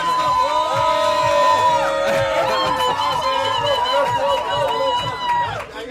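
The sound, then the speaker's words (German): An audience cheers and whoops loudly and steadily for about six seconds, with high excited voices layered over a dense crowd roar before it drops away abruptly at the end. “Ich sehe schon, der jubeln die Leute schon.”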